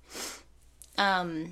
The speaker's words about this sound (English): Sniffle. The perma sniff.